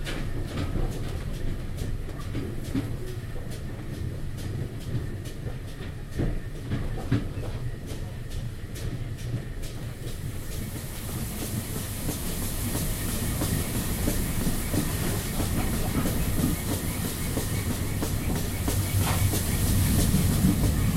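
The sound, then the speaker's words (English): A steam train carriage rolls steadily along the tracks with a continuous low rumble and faint rhythmic clicks, a broad hiss rising and growing louder in the second half. “probably steam engine.”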